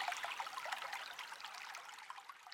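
Water from melting snow and ice in spring trickles and bubbles steadily, a continuous soft gurgle that stays fairly quiet throughout, with no voices present.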